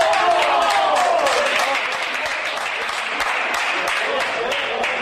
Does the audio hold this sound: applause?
yes